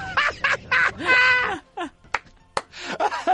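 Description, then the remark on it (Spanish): A quick series of squawking, honking bird calls from an app where you stroke a bird, four bursts in a row, then scattered sharper chirps and clicks, fairly loud, with no talking. “¡Acaricia el pájaro!”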